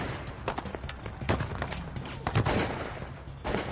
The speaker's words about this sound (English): the FBI, Texas Rangers, and Johnson County Sheriffs exchanged gunfire with the kidnappers of 13-year-old Amy McNeil